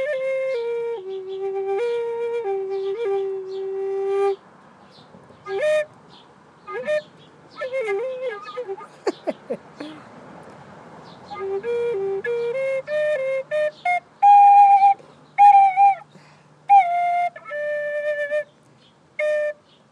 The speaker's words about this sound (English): This is actually my first flute I ever got.